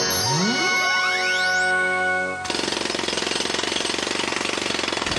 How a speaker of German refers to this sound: Frogpot, was ist denn das für ein Lärm? Was machst du denn da? Ich grabe nach einem Dino. In der Wohnung? Mit einem Presslufthammer?